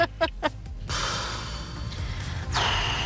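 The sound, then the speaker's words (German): A few quick, sharp breaths are followed by a long, heavy rush of air, like a deep, drawn-out breath. No one speaks. “Tiefes Atmen bei …”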